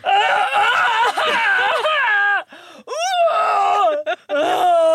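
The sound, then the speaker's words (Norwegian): A voice mimics a man retching and vomiting, with loud, strained groaning heaves, sudden rising gagging wails and brief gasps between them, continuous over about five seconds. “Og så hører jeg han spy. Og når menn spyr, kanskje som en som nesten aldri har spydt.”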